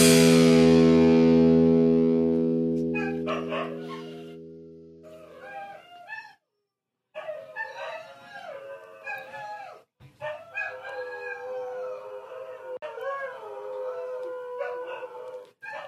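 A person's own hounds howl and bay loudly in the background, with long drawn-out wavering cries that overlap and rise and fall, opening with one sustained howl, followed by several voices joining in. No one is speaking.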